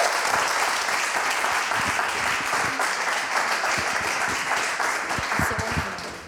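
Sustained applause from an audience welcoming a speaker at a small, familiar event, a dense, steady wash of many hands clapping at once, loud, holding for several seconds before easing slightly at the end.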